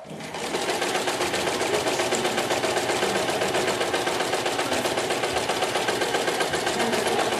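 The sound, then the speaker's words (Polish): A sewing machine stitches together a dog bed, its needle running in a fast, even mechanical rattle that holds a constant pace and loudness throughout, with no one talking. “Tak, zszywamy i co w środku?”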